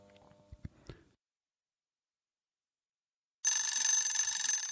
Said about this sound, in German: Es war wieder an der Zeit, seine Runde zu drehen. Einmal pro Stunde erinnerte ihn ein kleiner Wecker daran.